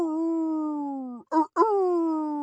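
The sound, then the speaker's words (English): A dog howls in long, sustained, slightly falling tones, breaking briefly in the middle with a short yelp before the howl resumes; fairly loud, with no other sounds. “Instinctively, I jumped up from my cozy sleeping space on the floor and howled back.”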